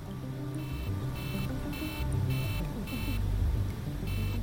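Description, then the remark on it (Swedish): A cockpit warning alarm sounds in steady, evenly spaced electronic pulses, about seven bursts in quick succession, over a constant low mechanical rumble, as the plane climbs to 3,700 metres altitude. “När planet fortsatte att stiga till 3700 meters höjd började ett larm tjuta.”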